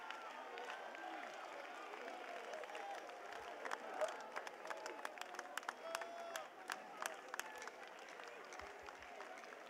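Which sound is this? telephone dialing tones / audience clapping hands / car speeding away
audience clapping hands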